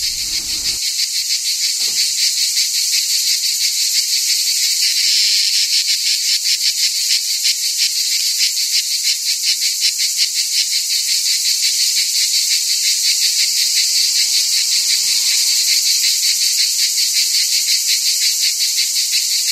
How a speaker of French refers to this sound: La matinée était déjà chaude et les cigales grésillaient éperdument.